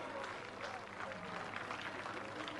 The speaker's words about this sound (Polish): Witamy serdecznie grupę 15. Gorące oklaski.